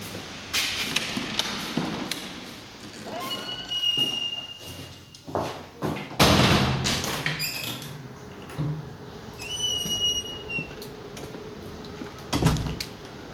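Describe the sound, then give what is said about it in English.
The back door of an apartment building in Berlin creaks and squeaks open with a few rattling clunks as someone goes out into the courtyard, then swings shut with a heavy thud, followed by more squeaking of the hinges and a final solid bang. “Going out through the back door.”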